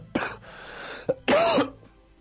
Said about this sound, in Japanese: 大丈夫？咳込んでるけど。